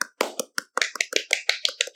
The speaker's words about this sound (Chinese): 加一个那个掌声音效是吧？ 加一个掌声音效。 此处也有掌声。